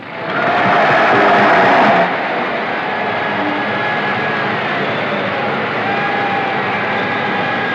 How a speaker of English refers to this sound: They're giving him a tremendous applause.